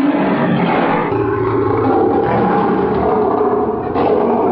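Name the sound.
lion roaring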